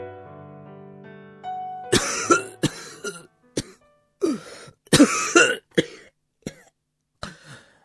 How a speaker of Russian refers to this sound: От дыма Джеймс Ферн зашелся тяжелым кашлем, но все же не отнял руки у ребенка.